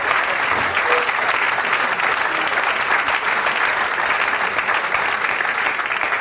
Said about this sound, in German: Das ist der Applaus für Professor Gottfried Beusitz.